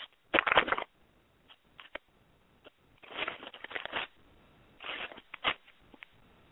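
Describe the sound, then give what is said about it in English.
Paper rustles as pages of the Bible are turned to Romans 15, in three brief crinkly bursts separated by short pauses, fairly quiet, with no talking. “Okay, I'm turning pages here.”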